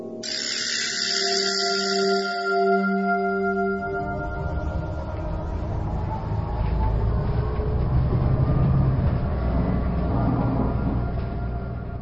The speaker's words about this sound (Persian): اتوبوس بلافاصله بعد از سوار شدن من حرکت می کند.